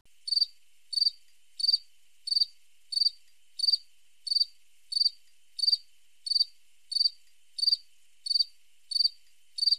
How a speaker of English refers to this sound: Okay, I'm pretty sure everyone has heard this sound. These are crickets. They are nocturnal omnivores with very long antennae, and the male crickets make the sound that you just heard by scraping their wings together, kind of like a violin.